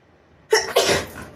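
human body sound, sneeze

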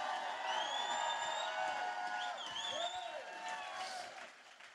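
crowd, crowd applauding and cheering

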